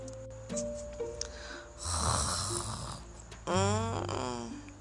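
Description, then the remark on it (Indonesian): Cartoonish snoring of a bee sleeping up in a tree: two long, rasping snore breaths with a buzzy, wavering tone, the second swooping in pitch, with no talking. “Ternyata adik-adik, seekor lebah sedang tidur di atas pohon.”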